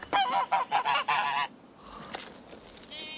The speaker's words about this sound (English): People ask me if I have a least favourite animal and I always say no, but it's definitely geese. Like, and it's not even all geese, it's just those three. They're so rude.